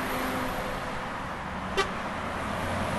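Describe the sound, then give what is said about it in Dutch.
Cars rush past on the A27 highway near Almkerk in the Netherlands in a steady, continuous roar of traffic, with one short, sharp horn toot cutting through partway along. “We fietsen naar Almkerk, langs de A27 waar we ons inbeelden dat in ieder van de auto's maar 1,2 persoon verscholen zit.”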